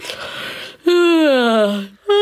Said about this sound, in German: Doch da hörte Lämmchen Lena ein leises Gähnen aus einer kleinen Grube in der Erde.